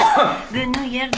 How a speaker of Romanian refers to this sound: Să-ți dau niște pumni în spate.